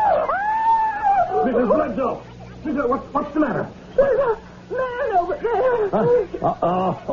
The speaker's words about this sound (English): Your scream probably terrified him.